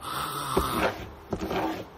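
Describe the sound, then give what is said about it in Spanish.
A voice imitates someone banging on a door during dinner, two forceful, breathy thuds about three-quarters of a second apart, moderately loud. “Tú has sido como un golpe, como si alguien estuviera arrancando la puerta, no sé qué.”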